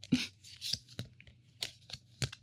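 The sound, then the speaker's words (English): A rainbow-colored stack of cards being shuffled, with a series of crisp, papery riffling bursts and soft flicks at an uneven pace over a low background hum. “I know, I just love shuffling them because I like watching the rainbow just go through.”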